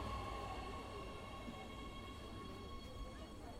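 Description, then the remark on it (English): A train arriving at Kizilai Station rumbles steadily, a deep continuous roar layered with a faint high mechanical whine, holding at an even loudness throughout. “Before long, the train arrives at Kizilai Station.”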